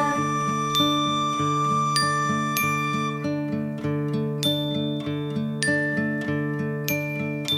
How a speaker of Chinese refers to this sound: 清脆的铃声在远处叮叮当，清脆的铃声在远处叮叮当，铃声叮当，铃声叮当，清脆的铃声在远处叮叮当。